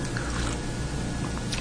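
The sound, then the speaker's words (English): Someone takes a sip of water: soft wet slurping and mouth sounds over a steady, fairly loud background, with no talking. “So I'm going to just take a sip of water every now and again, if that's okay, yeah?”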